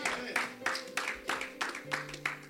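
An audience claps for the Lord Jesus, together in a steady rhythm, roughly three claps per second, with a sustained tonal hum, like a held keyboard note, running underneath.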